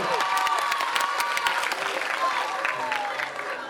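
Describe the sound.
A room full of people claps steadily and fairly loudly for a few seconds, with scattered voices and a few high cheers rising over the applause.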